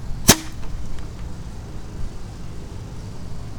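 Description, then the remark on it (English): A firework launches with one sharp pop, then nothing follows: no burst or bang, just a low, steady outdoor rumble for the next few seconds. “Oh, that one launched, but it didn't want to go bangs.”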